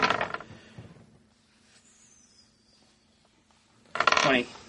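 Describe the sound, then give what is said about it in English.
Dice clatter and rattle across a tabletop in two short bursts, one at the start and another near the end, separated by a quiet stretch with a faint steady hum, as a player rolls for damage in a tabletop game. “Roll for damage.”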